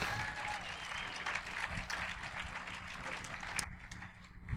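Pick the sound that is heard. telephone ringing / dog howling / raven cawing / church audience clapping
church audience clapping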